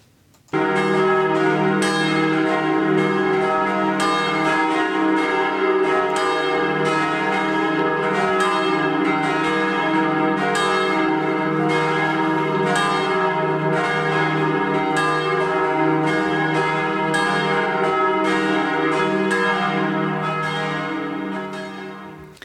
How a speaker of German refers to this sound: Wir stimmen uns ein mit den Glocken der St. Michaeliskirche in Lüneburg.